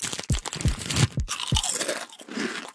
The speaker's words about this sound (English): And many people also say they love the crinkly noise that a chip bag makes. What about you, Smarty Pants? Do you like loudly crunching potato chips and crinkling the bag?